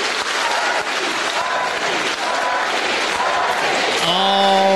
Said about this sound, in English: In fact, there's actually a crowd gathering right now outside of my apartment window. Let me go to the window here and see what they're saying.